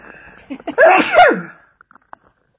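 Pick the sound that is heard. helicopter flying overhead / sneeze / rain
sneeze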